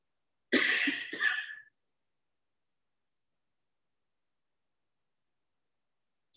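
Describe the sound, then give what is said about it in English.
A loud cough in two quick harsh bursts, followed by near silence with only a faint tick later on. “Is that cough I was talking about?”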